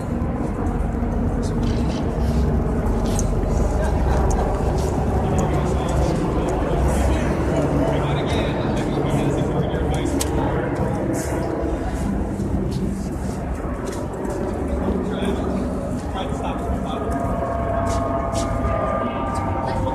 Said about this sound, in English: Helicopters, there's two of them. It means they'll be moving the prisoners. Got three of them up there right now. Not sure if they're all three related. Probably just the two, or maybe just one.